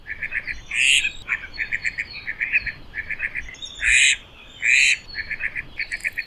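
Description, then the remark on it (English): Laysan ducks quacking, male and female: quick runs of soft, low quacks repeat steadily, broken by three louder, sharper quacks, with no voices. “The male's voice is a soft, low, quack, quack, quack, while females give more distinct quacks.”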